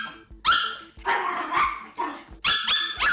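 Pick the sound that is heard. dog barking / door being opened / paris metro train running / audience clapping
dog barking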